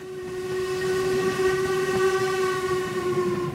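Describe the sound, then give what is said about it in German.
A steam locomotive crossing a viaduct and leaning into a right-hand curve over the bridge sounds one long, steady whistle over the continuous rumble of the moving train, loud, with no voices. “Die Dampflok legt sich über der Brücke in eine Rechtskurve.”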